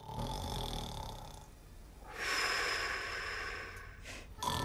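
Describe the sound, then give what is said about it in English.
A grandfather snores loudly after the light is turned off, with long rasping, snorting breaths that rise and fall in a slow rhythm, and no one speaking. “As soon as Jack turns off the light, Grandpa snores.”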